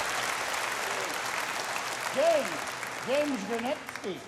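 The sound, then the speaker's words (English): A crowd applauds a young man who is a cognac specialist, with steady, dense clapping that carries through the whole clip, while a man's voice speaks over it in the second half. “All right, give this young man a round of applause.”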